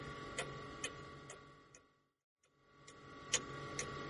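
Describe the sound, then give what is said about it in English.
A wind-up clock ticks steadily at about two ticks per second, crisp over a low hum. The ticking briefly drops out into near silence, then resumes at the same pace. “I think you wound it too tight.”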